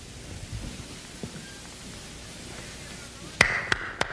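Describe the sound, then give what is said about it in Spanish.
A steady, rushing roar of wind from a heavy snowstorm in the Alps in the evening fills the scene at low volume, and near the end three sharp raps cut through it. “Esa tarde estaba yo en plena montaña cuando me sorprendió una tremenda tormenta de nieve.”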